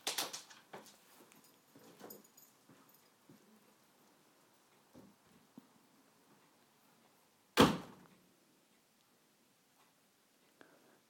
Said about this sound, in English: Close the door, why don't you? I think the wind blew it. Oh, there's a big gust of wind coming.